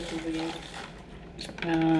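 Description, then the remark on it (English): Paper question cards rustle and rattle around inside a box as they are shuffled before the next question is picked, in a quick, uneven shuffle, with a brief louder scrape near the end, while a voice sounds over the start and finish. “Shuffle that box.”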